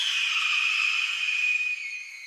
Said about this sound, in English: And I find that sometimes I'll layer in like the sound of a screeching as an explosion goes off, just to get that extra little intrigue in the high end of an explosion. Here's an explosion sound effect. And here's a red-tailed hawk screech.